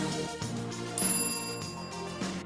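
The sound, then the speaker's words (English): A bright, bell-like notification bell sound effect rings out in a quick series of ringing tones, a few notes about half a second apart, clear with no voices. “If you haven't already, make sure to like, subscribe, and hit that notification bell.”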